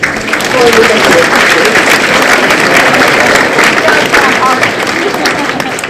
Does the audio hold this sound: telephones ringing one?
no